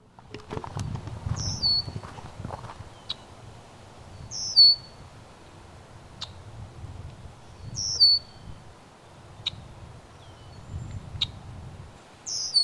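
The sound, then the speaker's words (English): A red-winged blackbird gives short, sharp high-pitched calls, repeated about seven times at irregular intervals over a low outdoor rumble, with no one talking. “That is a red-winged blackbird.”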